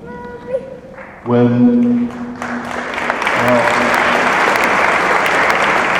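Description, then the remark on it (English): A large crowd at a pro-life march in Washington breaks into applause after a brief spoken voice, the clapping swelling quickly into a dense, steady roar that continues strongly to the end. “Now you can clap when I don't need to come anymore, then we'll all clap.”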